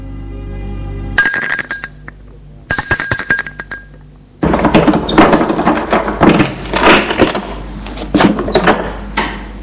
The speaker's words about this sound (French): On va sonner à la porte.